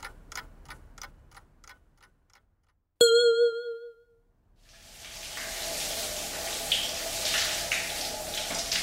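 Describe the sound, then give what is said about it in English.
Hot shower water starts running as Goofy gets up and has a shower, keeping up a steady, full rushing hiss, following a clock's quick ticking and a single bright chime that rings out and fades. “Goofy gets up and has a hot shower.”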